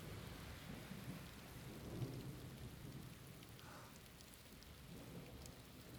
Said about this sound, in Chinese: 天气啊，刚才还阳光普照呢，这会儿又下雨了，都怪你非要跑出来玩，这下好了，只能躲在这么狭小的屋檐下。